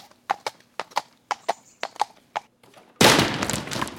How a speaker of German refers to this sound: Uiuiuiui, jetzt bin ich aber auf meinen dicken Popo gefallen. Ich glaube, ich war etwas schwer für den Stuhl.